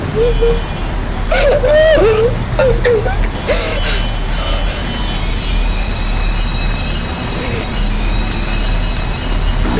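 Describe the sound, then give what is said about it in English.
A heavy bus brakes hard as it hits someone, over a loud, steady engine rumble, with a rising, wavering squeal and several sharp bursts of air-brake hiss, while a voice gasps and cries out. “Someone just got hit by a bus.”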